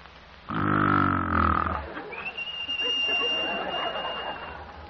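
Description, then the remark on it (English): A person imitates a snore of the frictional, non-lubricated type: one loud, rough, grating rasp lasting over a second, followed by a thin, steady high whistle over breathy noise. “B is the frictional or non-lubricated form, like this.”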